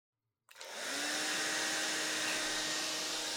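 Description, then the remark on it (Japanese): A hair dryer switches on after a brief silence and blows steadily, drying someone's scalp and hair: a loud whooshing roar with a faint motor whine, holding constant to the end with no voices. “それじゃあドライヤーしていくから。しっかりと頭皮と髪の毛乾かしていこっか。”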